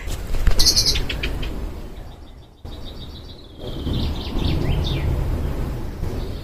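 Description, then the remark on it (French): Outdoor birdsong by the Allondon river, with a common chaffinch calling in the background, a burst of bright chirps followed by a repeated thin high call, over a steady low rumble of wind or water. “Et on a aussi eu le cri du pinson, qui est toujours bien reconnaissable, que vous entendez en arrière-plan”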